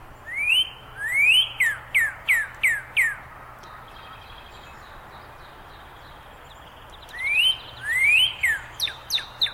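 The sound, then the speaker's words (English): A backyard bird sings a two-part song twice: a clear slurred whistle followed by a quick series of about five repeated high chirps, with a quiet pause between the two songs. “He changes a little bit, and that's to give an example of variation. But the pattern is pretty similar, and it's a two-part song, and it sounds like he's saying, cheer, cheer, birdie, birdie, birdie, birdie.”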